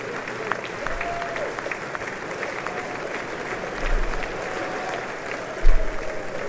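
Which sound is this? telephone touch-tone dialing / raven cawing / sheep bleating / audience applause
audience applause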